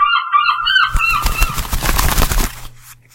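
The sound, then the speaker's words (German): Gulls call loudly with a few harsh, wavering squawks over the sea by the Fischland-Darß-Zingst peninsula, where fishermen head out in their boats, then a burst of rapid, rough clattering noise takes over before fading out. No one speaks. “Wie die Bäume sich im Wind wiegen und die Fischer in ihren Booten auf die See hinausfahren und die Möwen.”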